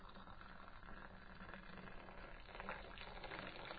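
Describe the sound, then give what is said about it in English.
A steady, hissing stream of tea pours from high up into a cup, poured by someone standing on a table aboard the QM2, splashing continuously for a few seconds and growing slightly louder toward the end, with no talking. “Why are you standing on the table pouring it?”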